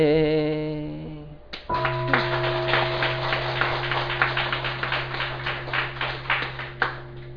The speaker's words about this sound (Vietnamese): Đại chúng mình cứ quán niệm mỗi một tiếng chuông như vậy đó, mình nghe một tiếng chuông là bao nhiêu cái phiền muộn, âu sầu, than vãn mình cũng rơi rụng. Cho nên là nghe chuông phiền não tan mây khói.